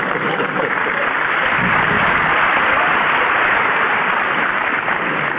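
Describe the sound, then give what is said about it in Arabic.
An audience claps steadily and loudly, a dense crackling wash of many hands that holds at an even level for about five seconds, with no voices rising above it. “أنتوا صفقوا للقاضي ولا لابن الحلال؟”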